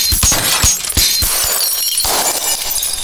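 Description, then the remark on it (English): The glass of framed pictures around a room shatters in a quick series of sharp, loud cracks, followed by a sustained bright tinkle of shards scattering and settling, with no voices. “And they were using the Ouija board, and all of a sudden all the pictures in the room, like all the framed pictures that were around the room, all cracked.”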